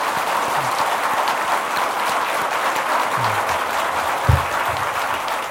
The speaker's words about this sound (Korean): 앞으로도 주어진 사역을 잘 하시도록 우리 오늘 은혜 끼쳐주신 목사님께 박수로 한번 격려해 주십시오.